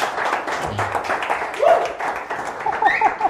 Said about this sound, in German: Ja, ja, einmal Applaus bitte. Vielen Dank.